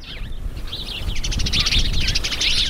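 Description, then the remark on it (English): A small group of birds chatters nonstop from a nearby bush on a prairie ranch, overlapping high chirps and twitters, while a steady low wind rumble blows underneath throughout. “On Nancy and Donnelly Darnell's ranch, it's windy as a small group of birds chatter incessantly in a nearby bush.”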